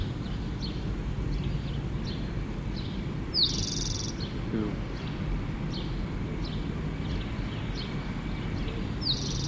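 A rufous-sided towhee sings from a pine at 8:31, sharp high notes repeated every second or so with two brighter buzzy trills standing out, all over a steady low background rumble.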